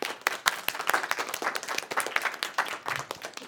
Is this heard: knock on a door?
no